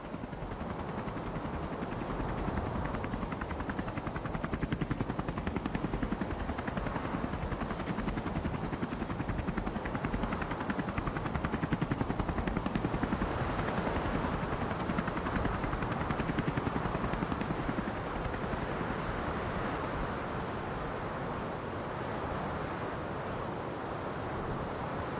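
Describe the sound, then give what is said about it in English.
A helicopter landing on a converted oil rig in strong winds: its steady, heavy rotor roar and engine drone fill the whole stretch without pause, a broad rumbling wash with gusty texture and no voices. “I must say, I had my doubts when we came in for a landing just now. The winds really grabbed the sides of the helicopter.”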